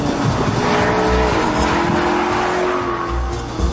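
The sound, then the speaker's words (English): A loud race car engine roars at high revs with a steady whine, mixed with squealing tires, filling the whole few seconds with no one speaking. “First I get to meet Ettore, and now I get to satisfy my second love, fast cars.”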